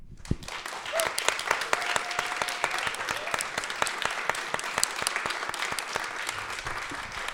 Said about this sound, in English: So I think we're going to finish now just with a round of applause for our poets.